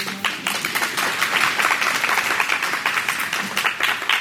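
An audience claps for themselves for about four seconds after answering a quiz question, many hands clapping together in a dense, steady crackle that holds at a fairly even loudness throughout, with no voices.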